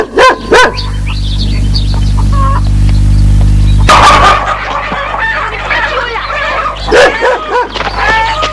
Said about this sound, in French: Il y a des tas de dépendances dans la cour de la ferme. Et en plus du chien méchant, il y a des poules, un canard et un coq.